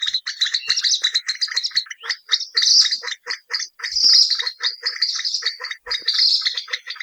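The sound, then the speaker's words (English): Kalij pheasant calls, a loud run of harsh squealing and grunting notes repeated in quick bursts over and over, with no one speaking. “The loud calls of these birds are very distinctive and sound a bit like the grunts and squeals of pigs.”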